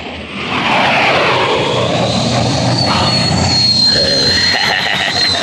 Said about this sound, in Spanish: ¡Mire, jefe! ¡Otros más! Aviones y más aviones. Entrando, saliendo de mis fábricas los aviones más rápidos del mundo.